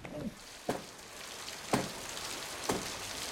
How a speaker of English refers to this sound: A shower of rain falls as Tatishev wanders down to the seafront.